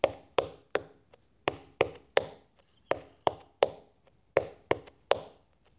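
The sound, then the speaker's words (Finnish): Hand drumming in repeating groups of three sharp, resonant strikes, two with the left hand and one with the right, with short gaps between groups, played four times in a steady pattern with no voices. “Rummutus meni niin, että vasemmalla kädellä lyöntiin 2 lyöntiä ja oikealla 1.”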